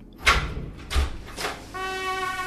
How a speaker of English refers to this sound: The door opened and in walked one of the most gorgeous dames I had ever seen.